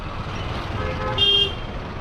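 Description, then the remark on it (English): A car drives in Calcutta, travelling south of the city, with a steady low road and engine rumble, and a single short, bright horn toot sounds near the middle, standing out briefly above the traffic noise. “We're still in Calcutta, but we've jumped in a car.”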